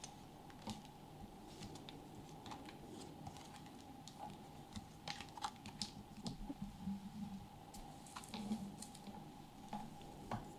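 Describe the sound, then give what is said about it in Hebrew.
Cards being handled and laid out for a card reading in a studio, making soft, irregular clicks and papery rustles, quiet over a faint steady hum, with no one talking. “במקביל היא פותחת גם קלפים”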